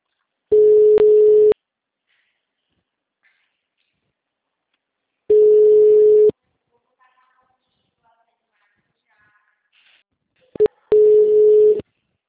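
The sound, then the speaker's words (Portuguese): A telephone rings three times, each ring a steady, buzzy one-second tone separated by about four seconds of near silence. There is no talking, only a faint click before the last ring. “Ai, telefone tocou.”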